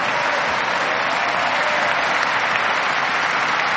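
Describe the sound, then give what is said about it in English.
A standing church audience claps for Jesus in loud, sustained applause, a dense continuous patter of many hands that holds steady throughout without any voices standing out. “Stand to your feet and give Jesus a hand clap.”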